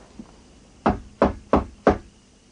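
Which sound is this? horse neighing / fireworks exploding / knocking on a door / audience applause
knocking on a door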